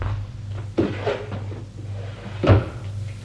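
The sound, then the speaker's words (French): A wooden drawer slides open with a scraping rumble as a man puts a bank statement into it, then about two seconds later is pushed shut with a firmer knock, with a low background hum. “Met l'avis de passage dans sa poche, le relevé de compte, il va le mettre dans son tiroir.”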